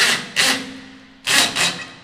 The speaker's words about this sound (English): To power the gear, workers drill in electric panels.